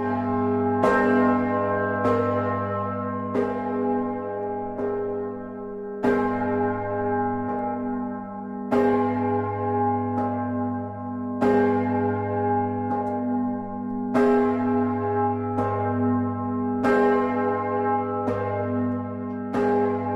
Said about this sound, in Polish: Właśnie wspomniała Pani o dzwonie Tubadej, rok 1500. O dzwonie Tubadej, o legendzie, o historii za chwilę powiemy